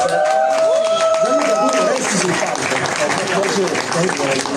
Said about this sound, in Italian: …, un applauso.